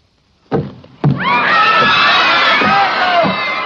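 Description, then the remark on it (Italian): Two heavy thuds are followed by an audience of scientists erupting in alarmed commotion as a creature is unveiled, with many voices shouting and screaming at once, loud and sustained to the end. “Restate ai vostri posti, vi prego! Non siamo bambini, siamo scienziati!”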